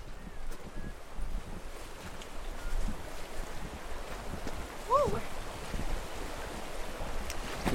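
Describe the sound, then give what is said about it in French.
Steady rushing of flowing river water fills the scene, continuous, with gusts of wind buffeting the microphone and faint, indistinct voices in the background, as people get ready to cross the river. “Alors, on est ready à traverser la rivière?”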